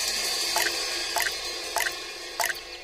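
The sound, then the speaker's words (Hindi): Water drips from a tap into a bucket placed beneath it in a school toilet, four distinct plinks falling at a steady, unhurried pace over a faint background hiss, with no voices. “तुमने इस नल के नीचे ये बाल्टी रख के पानी को व्यर्थ जाने से बचा लिया, शाबाश।”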